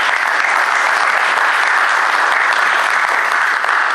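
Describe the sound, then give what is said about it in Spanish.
Steady, sustained audience applause for three people at the start of a day's session fills the whole stretch, a dense wash of many hands clapping at once, loud with no voices standing out. “Bueno, un gran aplauso a los tres y damos comienzo a la jornada.”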